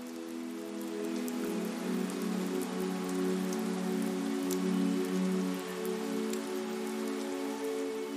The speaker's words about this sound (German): Du hörst das leise Plätschern der Tropfen, wie sie auf das Kopfsteinpflaster fallen, und spürst, wie der Duft von nassem Stein und frischem Regen die Luft erfüllt.